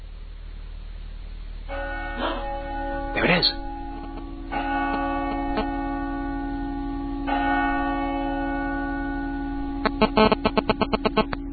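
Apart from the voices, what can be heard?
church bells ringing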